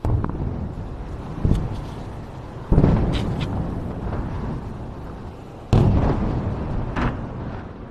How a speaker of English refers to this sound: Most of them, it seems, didn't reach the ground. Instead, they were intercepted in mid-flight by Israel's air defence systems, explosions that could be heard in the skies above the whole region.